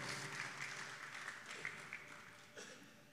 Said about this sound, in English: Give the Lord a hand clap of praise as you're being seated.